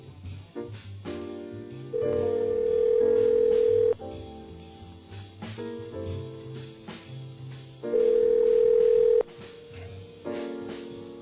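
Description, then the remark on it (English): A telephone line rings twice through the earpiece as a last-minute call is placed to a listener at Christmas, each steady ring lasting about two seconds with a pause between, over an upbeat music bed. “We're making some last-minute phone calls.”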